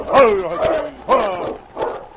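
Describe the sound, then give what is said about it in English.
Dogs at a hillside cabin bark after midnight in three loud bursts spaced roughly a second apart, each a harsh, tonal yelp that trails off before the next. “Light in the window and dogs out and back.”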